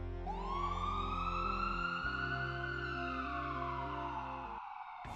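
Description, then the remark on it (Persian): An ambulance siren, of an ambulance on its way after an emergency call, sounds loud as one long wailing tone that slowly rises in pitch and holds, over steady low droning notes, with no one talking. “زنگ زدیم به اورژانس و الان آمبولانس در راهه.”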